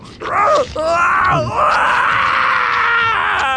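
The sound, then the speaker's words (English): A loud, strained vocal screech of agony, rising and wavering in pitch, holds for over three seconds after a brief break, sounding raw, like a pained creature crying out as it is devoured from inside. “He screeched in agony.”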